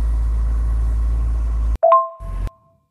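A steady, low engine drone fills the inside of a car for a moment, then cuts out; two soft electronic chime tones ring briefly before a short burst of rumble returns.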